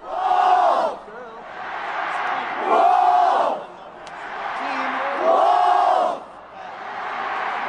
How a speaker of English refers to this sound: I found one Wolfpack chant. It's probably not from, matter of fact, it's definitely not from that school, but just to give you an idea. Of what a Wolfpack chant may sound like?